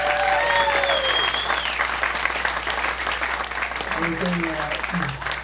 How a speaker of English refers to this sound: In fact, let's have a round of applause for the volunteers setting this all up.